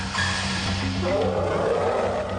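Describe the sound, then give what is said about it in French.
A large elephant rumbles loudly as it approaches through moving grass, over a steady wash of rustling grass, the deep sound continuous and growing with no one speaking. “On dirait un éléphant. Un éléphant qui se rapproche.”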